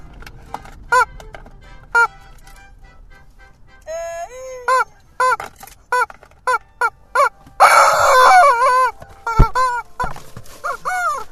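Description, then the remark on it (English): A squeezed rubber chicken toy squawks over and over in short, bending honks, with one longer, louder strangled squawk midway, fairly loud with no talking. “This is where we do need a video, is watching you choking the chicken.”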